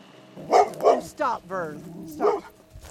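A few dogs bark in quick, uneven bursts on a dirt road on the outskirts of Douglas, Arizona, as a woman calls her dogs into the house; sharp barks mix with higher yips and a drawn-out whining howl.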